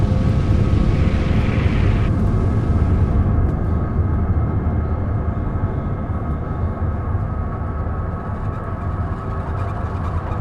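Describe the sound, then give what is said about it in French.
A loud, steady roar of an airplane passing overhead in a city known for aviation, a broad rumbling drone that fills the whole clip and eases slightly toward the end, with no voices. “Maintenant, l'histoire des avions, quand je veux dire, on est dans la ville de l'aviation, donc on peut difficilement y échapper, quoi.”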